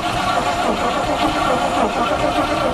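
A starter motor cranks a beefy engine in a steady, loud churn that runs the whole time without the engine catching.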